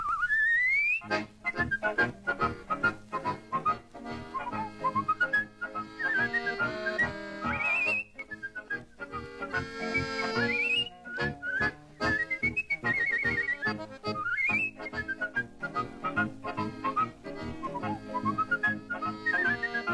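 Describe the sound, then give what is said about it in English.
A man whistles a lively, warbling melody with quick trills and sliding pitches, loud, over a steady instrumental accompaniment with no talking. “Milwaukee's favorite listener and whistler.”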